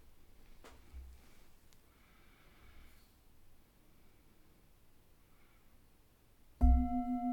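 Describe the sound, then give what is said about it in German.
After several seconds of near silence, a single loud gong strike rings out and keeps resonating with a sustained, shimmering tone that doesn't fade before the end. “Wenn du magst, kannst du nach dem Gong eine Kurzübung anhören.”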